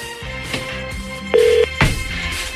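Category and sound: signal or alarm, telephone keypad dialing tones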